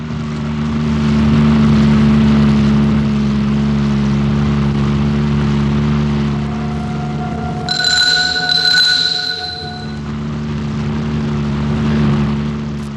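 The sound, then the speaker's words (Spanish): A car engine roars steadily with a deep, humming drone throughout, joined briefly midway by a bright, high ringing tone, as a rental car speeds violently up a street toward the city exit in a chase. No one speaks. “el carro de alquiler que seguía se abalanza violento calle arriba en dirección a la salida de la ciudad.”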